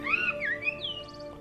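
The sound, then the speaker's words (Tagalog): Clear birdsong: sliding whistled notes rising and falling, then a quick burst of rapid, trilling chirps, heard over a soft steady background hum with no voices. “Ang kanilang mga huni ay maganda sa aking pakikinig.”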